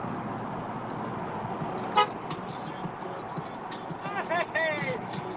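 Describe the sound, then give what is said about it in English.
Steady road traffic rumbles throughout, heard from a car in traffic, with a short car horn toot partway through and a couple of brief honks near the end; faint voices may be mixed in. “I'm in traffic, look, let me pull up on this nigga”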